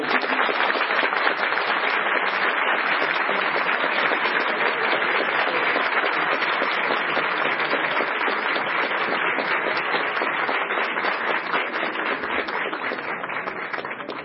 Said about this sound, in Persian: تشویقانشون میده هنوز دوستان انرژی دارن.